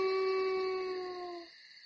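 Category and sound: animal, wolf howling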